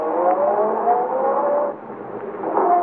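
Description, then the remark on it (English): A big car's engine roars loudly as the vehicle accelerates away down a driveway, its droning pitch climbing steadily, dipping briefly, then revving up again near the end. No voices are heard. “At the moment she's sending the big car roaring down the driveway”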